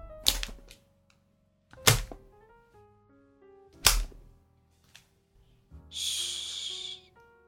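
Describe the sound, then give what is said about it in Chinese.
Three sharp, loud leather whip cracks land at steady intervals, each a snappy smack as the whip swishes through the air and lands on a person's body, over soft sustained music, followed by a longer breathy hiss near the end. “我真的很喜欢，皮鞭划过空气，落到你身上清脆的响声呢。”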